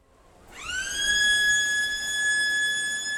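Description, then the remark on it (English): A high school bell in Torrevieja on the Mediterranean coast, signaling the start of classes and sounding like a siren: a loud, piercing electronic tone swoops up in pitch, then holds steady and continuous for several seconds, with no voices. “It's the bell at IES Mediterranean High School in Torrevieja, signaling the start of classes.”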